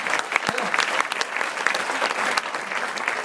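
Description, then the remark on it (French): A crowd claps steadily in dense, continuous applause, moderately loud, with sharp individual claps popping out of the mass throughout, applauding a performer at a show. “On l'applaudit parce que franchement, c'était grave.”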